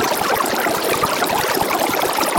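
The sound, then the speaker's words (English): A recording of an entire GOP debate sped up into one second without pitch shifting, turned into a dense, steady rushing wash like running water, with rapid flickering chatter and no intelligible words. “It's like no pitch shifting at all. It's just completely sped up.”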